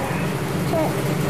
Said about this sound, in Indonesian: Ya, itu suara itunya tinggal mengganggu tadi. Suara mesinnya. Tutup pintunya dulu. Berisik.